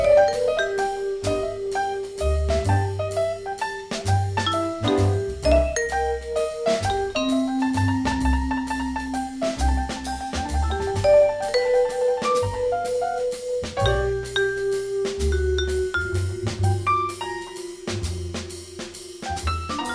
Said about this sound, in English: But the vibes, with its doorbell chiming, could be hard to get down and dirty on, and … gloriously round tone could make a slow blues sound whistle clean.